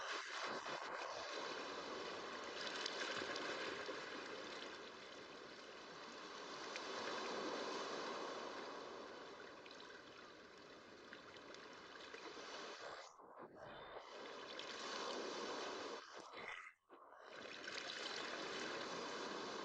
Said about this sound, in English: The undertow gently lifts you up, and you let yourself go so that you float on the surface. You float in a state of weightlessness, lulled by the lapping of the water.